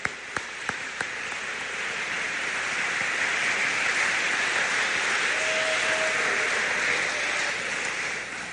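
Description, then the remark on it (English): A large audience at a Fort Recovery High School awards ceremony applauds the Outstanding Service Award winners steadily for several seconds, a dense, even wash of clapping that starts with a few sharp individual claps and holds at full strength throughout, with no talking. “Let's give one more big round of applause for all of our Outstanding Service Award winners.”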